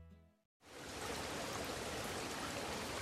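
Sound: flowing river water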